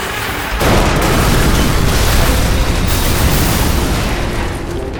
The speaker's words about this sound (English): Dynamite tore off the door and opened a big hole in the side of the express car.